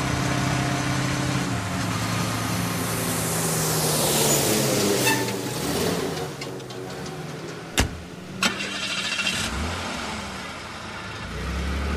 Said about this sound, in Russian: Мимо проезжают ничего не подозревающие армейские мотоцикл и автомобиль.